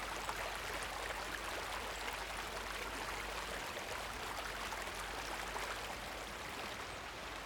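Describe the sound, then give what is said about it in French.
Steady rushing of a flowing river, a dense continuous wash of water noise at constant level, with no voices and no pauses. “Goûter les bords de la rivière, vivante, elle fait remonter les souvenirs et battre les ailes des oiseaux.”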